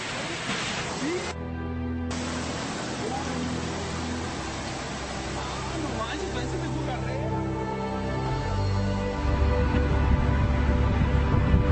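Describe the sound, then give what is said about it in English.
Rushing floodwater roars steadily through a flooded street in Mexico, a dense hiss that swells louder and heavier near the end, with faint muffled voices or tones buried in the din. “Apparently about 20 cars were dragged in these waters, but wait till you see the camera pan back.”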